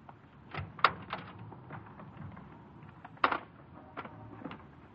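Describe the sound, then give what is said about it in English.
The door of an unlocked car is opened, with a sharp latch click, a quieter mechanical rattle, and a second clunk a few seconds later over low background rumble. “The car wasn't locked. I opened the door, and...”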